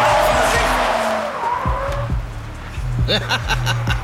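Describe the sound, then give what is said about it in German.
A car that was approaching quite fast brakes hard with a loud, high tire squeal that slides in pitch and fades, followed by the low rumble of the engine idling. “Wenn er uns abholen möchte, dann sollte er das Auto langsam mal bremsen.”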